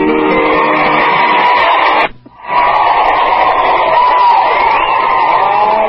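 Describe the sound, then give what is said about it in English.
A crowd applauds loudly after a song, a dense, steady roar of clapping and cheering that cuts out for a split second partway through, then resumes just as strongly. “Just listen to that applause.”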